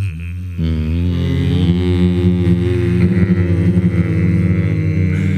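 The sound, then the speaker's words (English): A steady, low droning hum of plasma waves in deep space, picked up by the Voyager probe, layered with sustained tonal overtones that shift slightly in pitch, with a soft onset followed by a continuous, unbroken drone. “Well, it turns out the silence isn't so silent as it continues to pick up a hum of plasma waves. So there's a low hum in space.”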